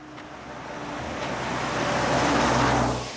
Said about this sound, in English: Cars zoom past the wooded land that surrounds Grant Creek on North Douglas Highway on Tuesday morning. It's located just a few minutes beyond the bridge from downtown Juneau.